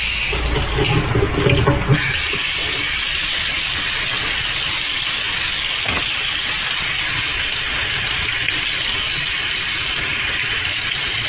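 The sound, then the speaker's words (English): Water splashes loudly for a couple of seconds as a cloth is dampened to cool someone's forehead, then settles into a steady hiss of running water with one faint knock partway through. No voices. “this damp cloth will cool your forehead.”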